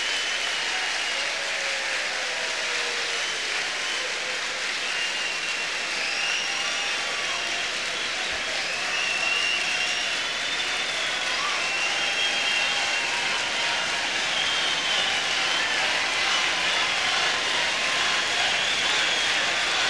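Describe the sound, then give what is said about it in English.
A huge crowd of convention delegates in the hall roars continuously, a dense wash of cheering and clapping with rumbling stamping of feet underneath from delegates standing in the risers, sustained and loud for the whole stretch with faint whistles and shouts rising through it. “Many of the delegates are standing and in the risers at the ends of the halls, stamping their feet. You can hear a roar of the crowd.”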